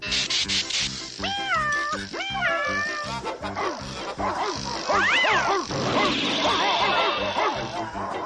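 Repeated meowing from a remote-controlled toy cat, loud, with dogs barking and yipping in a busy, overlapping chorus throughout as the fake cat leads them out of a building.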